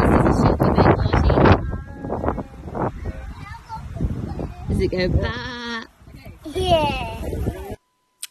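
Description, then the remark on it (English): A sheep bleats several times at a family property on a windy day, its wavering calls cutting through steady wind buffeting the microphone, with brief voices mixed in between the cries. “one of them was the sheep”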